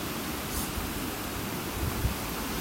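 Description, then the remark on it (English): A steady, full rush of water flowing through a narrow stretch of river, continuous, with a dense hiss and low churning rumble that never lets up. No one speaks. “I'm just walking up to a really narrow bit of river now. Hopefully you can hear that.”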